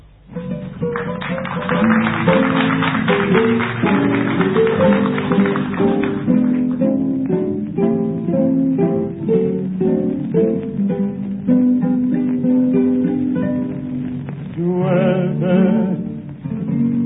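An old, somewhat muffled recording of a tango waltz plays at steady volume, with strings and guitar carrying a flowing, lilting melody throughout; no one talks over it.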